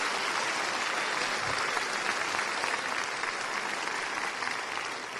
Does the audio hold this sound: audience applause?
yes